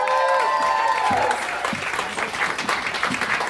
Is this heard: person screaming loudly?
no